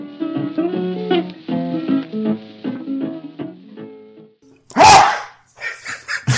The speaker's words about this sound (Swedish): En hund, eller var det du som nös där? Nej, det var jag som nös. Jag tänkte, jäklar, om man skaffat Doberman eller något. Jag är ökänd för mina enorma nysningar.